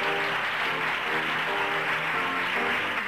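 A small audience claps loudly and continuously at the end of a reading of the first act of Carrie, with whoops and cheering voices rising over the steady applause for the whole few seconds as the cast take a bow and their names are shouted out.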